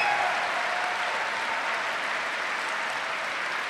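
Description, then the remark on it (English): An audience applauds a university choir, steady and dense, many hands clapping in a continuous wash of noise at an even, fairly loud level with no voices standing out. “please give a special applause for the university choir.”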